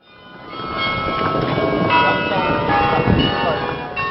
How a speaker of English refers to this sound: Church bells across the country rang for five somber minutes just before two transport planes arrived at Eindhoven Air Base, carrying the first coffins of victims who died aboard Malaysia Airlines Flight 17.